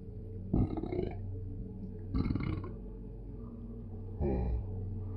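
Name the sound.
loud burp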